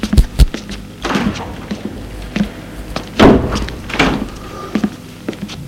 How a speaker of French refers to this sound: Apolline ferme la porte.